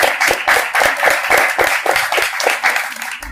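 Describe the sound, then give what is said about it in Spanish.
A crowd applauds the winners of awards presented the day before, including best color, best cover, best self-published art and best integral art. Dense overlapping claps form a continuous, fairly loud patter with a slightly rhythmic pulse, no voices standing out. “O sea, primero, aplauso para los ganadores de ayer.”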